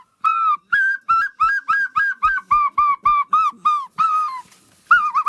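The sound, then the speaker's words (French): A flock of about thirty gulls flying overhead in formation calls in a rapid, steady series of about a dozen short, nasal, mid-pitched cries, each slightly falling at the end, loud and clear with no voices. “Elle me survole à nouveau en émettant ce petit encadrement caractéristique des goélands qui cherchent le contact.”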